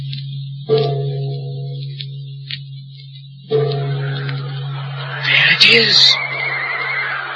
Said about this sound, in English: A horse! It's working! It's working!